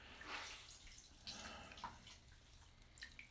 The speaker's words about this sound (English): Here, lean forward and let me just cascade water down your back.